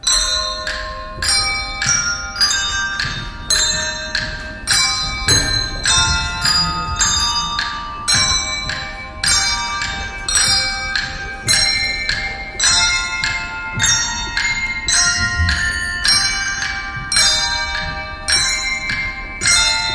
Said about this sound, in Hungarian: Végezetül pedig hallgassunk meg egy részletet a vizsói csengettyűs gyerekek előadásából.